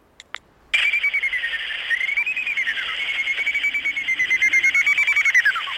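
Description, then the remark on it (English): A greater horseshoe bat's echolocation call, produced through its nose, heard as a steady, warbling whistle-like tone made of rapid, evenly repeated pulses, starting after two brief clicks and continuing loudly without any talk. “That was a greater horseshoe. It's quite different, isn't it? It's got much more of a whistle to it.”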